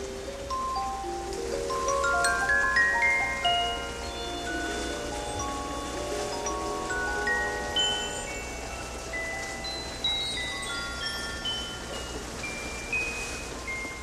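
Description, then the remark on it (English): A steady, soft hiss of light rain falls throughout, while a gentle melody of sustained, tinkling notes drifts over it. No one speaks. “Thanks to this chair, I'm actually enjoying this little rain.”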